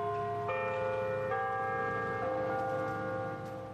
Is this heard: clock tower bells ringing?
yes